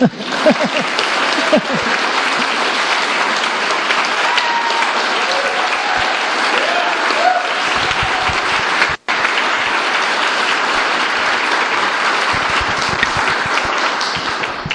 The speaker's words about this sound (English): And now applause.